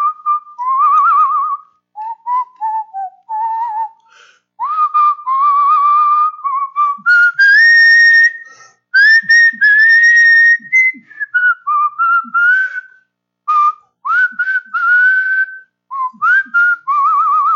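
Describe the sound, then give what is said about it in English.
A person standing in line whistles a melody, clear, with smooth sliding notes rising and falling in a continuous tune broken by short pauses, no talking. “I was in line, and I had just gotten a couple things, and I was whistling.”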